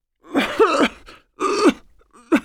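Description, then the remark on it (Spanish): An elderly woman, a grandmother with a lingering winter cold, coughs in three harsh, raspy bursts, the first two long and rattling, the last short and sharp, fairly loud with brief pauses between. “Abuela, es mejor que cuides esa tos. No me gusta para nada.”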